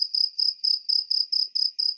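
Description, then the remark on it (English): A cricket chirps steadily on its own, a bright, high trill repeating in even pulses about four times per second, clear against otherwise silent surroundings. “Why am I hearing crickets?”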